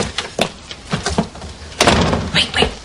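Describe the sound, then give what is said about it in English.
A door swings shut with a solid thud, followed by a few clicking, rattling handling sounds like a latch or lock being worked, moderately loud with faint voices around. “Lock the door, seriously.”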